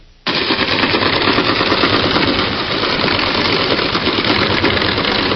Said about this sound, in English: And I'm going to play a little cargo ship here to see one of the things that we could quiet down, if you have a moment.